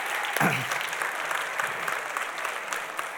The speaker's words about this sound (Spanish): Ahora quiero despedir a los niños que se pueden ir ya con los padres que los están esperando. Una vez más vamos a darles un aplauso y las gracias.